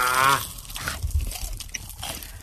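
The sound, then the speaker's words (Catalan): Close, wet chewing with sticky mouth smacks and small crunches, repeating irregularly over a couple of seconds, opening with a brief harmonic vocal sound. “Tu mi fa molt fàstic aquest soroll de pasteta.”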